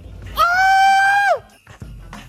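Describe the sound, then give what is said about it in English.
A soundboard clip: a man lets out one loud, sustained, high-pitched scream lasting about a second, its pitch sagging as it cuts off, followed by quieter background noise. “We do have a lot of random screams on the board.”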